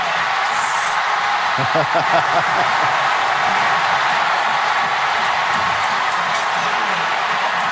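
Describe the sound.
A stadium crowd roars and cheers after Chris Davis returns the ball for an Auburn touchdown, a loud, steady wash of noise with a few shouted voices poking through early on, never letting up for the whole stretch.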